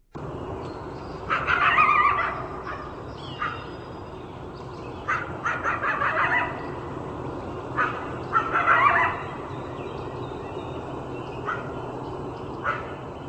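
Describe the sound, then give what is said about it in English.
Coyote calling: several bursts of high, wavering yips and short howls separated by brief pauses, fairly loud over a steady hiss of background noise, with no one talking. “Sounds like a coyote, absolutely.”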